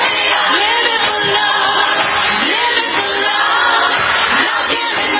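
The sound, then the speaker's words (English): A large crowd at the Grammys roars, cheers and claps continuously, a dense wash of voices with scattered whoops rising above it, staying loud and steady throughout. “They're just feeling the crowd clapping.”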